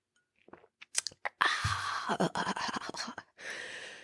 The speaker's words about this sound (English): Let me get a sip of this horrible matcha real quick.